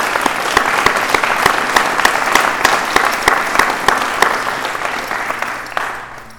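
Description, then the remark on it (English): A room full of people at an evening meeting claps steadily for everyone who shared, dense overlapping claps at a fairly loud, even level, tapering off slightly near the end. “Could we have a round of applause for everybody who shared tonight?”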